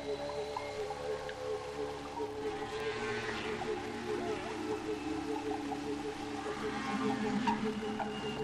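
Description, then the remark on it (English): Long, drawn-out whale calls with steady tonal moans and higher sweeping cries hold for the whole stretch over a low watery rumble, moderately loud and continuous with no one speaking. “Each week, we tell tales of the Hudson River to our friend Henry the Hudson Whale.”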